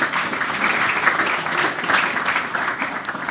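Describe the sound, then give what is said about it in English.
Steady applause from a crowd for a panel, many hands clapping at once in a dense, even wash of sound that holds at a constant level throughout, with no voices standing out. “So a round of applause again, and thank you for joining the panel.”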